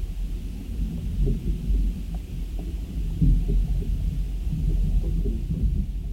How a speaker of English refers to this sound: Here's another recording from Kaho, contact microphones on a creaking tree.